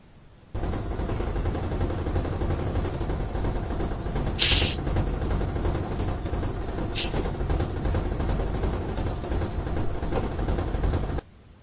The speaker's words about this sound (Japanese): まあ、これはね、わかると 思う。これ洗濯機 ですか？洗濯機。 洗濯機。はい、正解。 なるほど。すげえ揺れてんじゃん。 ピポーンってやつですね。いや、もう至近距離で撮ってるけど。 家の中で済ませたわ。 家の中で鳴る音としては、一番大きな音がこれなんですよね。 そうですね。 はい。ちょうどこれ、乾かしてる時の音なんで、